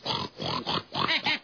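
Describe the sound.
A pig oinks several times in quick succession, about five loud grunting squeals with short gaps between them and no talking.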